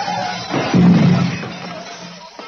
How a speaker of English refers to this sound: Ah, well, there's your ghost. See the glass? We drove through... A mirror. Those headlights we saw were our own.